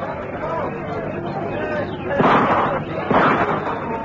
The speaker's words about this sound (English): Let's have a look. They're shouting and arguing down there.